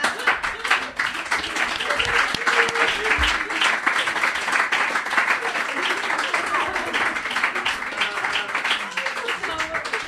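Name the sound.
timid applause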